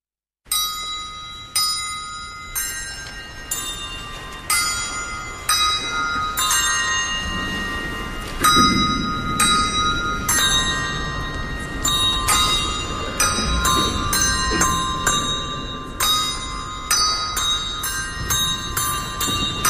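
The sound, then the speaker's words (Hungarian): Several bells ring loudly at a family home whose garden is full of small chapels and bell towers, struck over and over in an irregular, overlapping peal, their bright tones sustaining and blending together throughout, with no voices. “Ő ugyanis, mint mondtam, a harangokat kutatja.”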